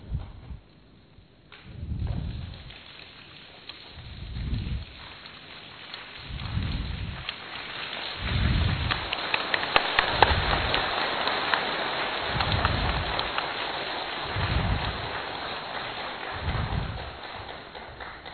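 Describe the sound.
A group does a 'rain clap', clapping with one finger, then two, three, four and five fingers on the leader's signal to imitate rain, starting as a sparse patter and building to a dense, loud shower, with soft low thumps recurring about every two seconds.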